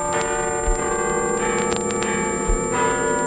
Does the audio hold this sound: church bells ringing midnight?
yes